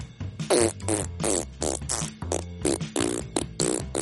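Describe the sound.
A child's voice makes a rapid string of loud, low, sputtering fart noises, about eight bursts in a row, imitating how a T-Rex fart might sound.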